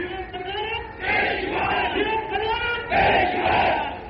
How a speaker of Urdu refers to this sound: ٹھہرو بھائی ٹھہرو ٹھہرو, نعرے کم لگاؤ, بات سمجھو.